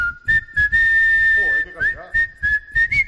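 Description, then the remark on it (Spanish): A man whistles a tune, a steady, clear melodic line with slides between notes, while rhythmic thumps and faint background voices continue underneath. “Hay uno ahí que silba muy bien.”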